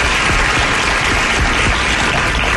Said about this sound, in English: Now, here's your host, head chef of the Men's Room, the Ted Nugent. Wow, crowd goes wild.